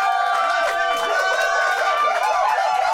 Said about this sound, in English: Control room, round of applause, please.